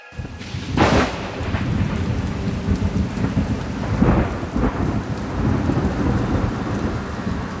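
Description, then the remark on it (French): A thunderstorm rages with steady, heavy rain pouring down and rumbling thunder, including a sharp loud crack near the start and further rolling peaks later on, with no voices. “C'est par une nuit d'orage de l'hiver 1970, sur une route départementale sinueuse du Limousin”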